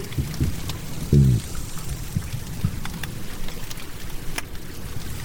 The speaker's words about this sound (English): Here, occasionally, are the low grunting sounds of a single cod.